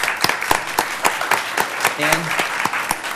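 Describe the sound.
An audience applauds steadily, with dense overlapping claps and a few sharp, distinct hand claps standing out, while brief murmurs of voices rise faintly underneath.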